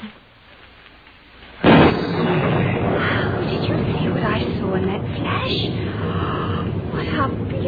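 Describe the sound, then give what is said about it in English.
A sudden loud crack of thunder during a lightning storm bursts out after a quiet moment, then rolls on as a heavy, steady rumble for several seconds, with muffled voices mixed in. “Even when the lightning flashes, the shutters must be drawn.”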